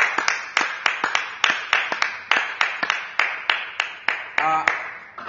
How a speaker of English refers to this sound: Before she goes, wherever you are, in your various house churches, can we just give a clap offering to the Lord? Because the Lord indeed has been good. Wherever we you are, let us just clap to the Lord.